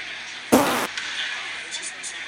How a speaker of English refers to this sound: I got a fart.